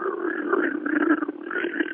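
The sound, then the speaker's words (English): Water sloshing inside the corrugated flutes of an origami boat made of corrugated plastic as it tips forward makes a steady, throaty gurgling growl that wavers in pitch for about two seconds, almost like an animal's grunting roar. “And when you're out in the boats, when they're tipping forward, when a little bit of water gets in the flutes, that is the corrugation of that plastic, it makes this sound like...”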